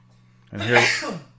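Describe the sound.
A single sneeze bursts out suddenly in the background over a steady low hum as a show begins recording in front of a live audience. It is a voiced, breathy blast with a bright hiss that swells and then trails off within about a second.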